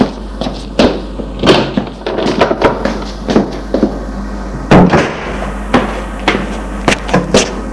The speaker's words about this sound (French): L'on a sonné à la porte. La bonne va ouvrir.